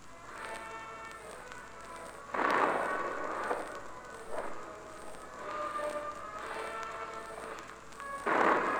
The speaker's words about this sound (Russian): Сейчас первый выстрел салюта.